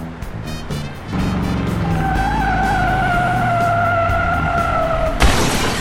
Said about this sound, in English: Look what you did to my car! The whole front end is smashed in.